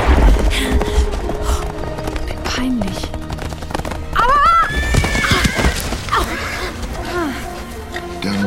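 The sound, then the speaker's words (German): A horse lets out a loud, rising whinny midway through as it jumps a very wide ditch and falls, over a dense rumble of hoofbeats and commotion that fills the whole stretch. “Stürzt ihr Pferd.”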